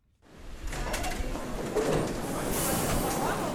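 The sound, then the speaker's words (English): Busy Paris metro station ambience: a steady wash of commuter crowd murmur and footsteps, with a passing train's rumble and a brighter metallic hiss building toward the end. “Commuters streaming into the Paris metro passed a curious new poster campaign.”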